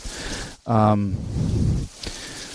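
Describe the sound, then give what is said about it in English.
Heavy rain and wind from Hurricane Irma roar in a steady outdoor hiss outside a front door, filling the whole stretch, with a person's voice speaking briefly over the downpour in the middle. “I mean, the rain is coming down huge, and you can hear the wind, but it's not super nuts.”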